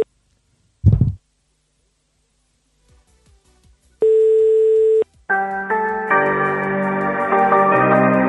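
A brief thump, then a run of soft clicks like dialing, followed by a steady one-second telephone tone, then a loud, sustained tonal electronic sound, as someone phones the Israeli Prime Minister's residence.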